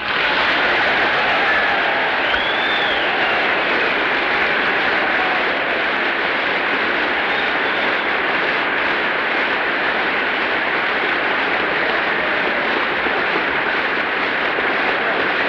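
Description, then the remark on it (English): Sustained applause from a large audience after General MacArthur's speech closing his military career, a dense, steady crackle of clapping that holds at an even, loud level throughout without fading or breaking. “General MacArthur turns amid the general applause, shakes hands with Speaker Sam Rayburn, Vice President Barclay, exchanges a few words with him, turns once again and faces the audience”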